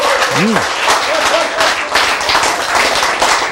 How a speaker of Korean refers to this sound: 네, 박수 한번 크게 칩시다. 네, 네. 좋아요. 네.